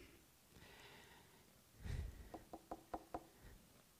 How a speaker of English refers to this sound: Behold, it's kind of like a stand up and listen. It's not just a throwaway word. Behold, hey, look, I stand at the door and knock.